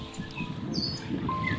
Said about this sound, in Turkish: Denizin sesi, rüzgarın sesi, kuşların sesi.